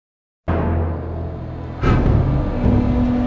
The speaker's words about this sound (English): The dump trucks line up along the beach. A machine with a huge scoop at the end fills each one up with sand. Then they turn around and head south in an orderly procession.